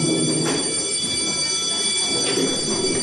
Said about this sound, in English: That, by the way, was the only thing I liked about school, the bell for recess. That is when everybody would dart up and start packing for the hallways, only to be interrupted by the teacher, who would say...